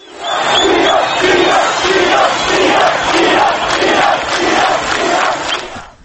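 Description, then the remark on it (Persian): A large crowd of opposition protesters at a march chants in unison, repeatedly shouting the name of Iran in a short rhythmic slogan at a steady pulse, loud and continuous for several seconds before fading at the end. “تظاهرکنندگان در راهپیمایی‌های امروز همچنین بارها نام ایران را فریاد زدند.”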